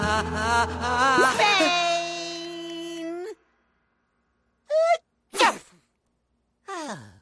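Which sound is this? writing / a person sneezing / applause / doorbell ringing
a person sneezing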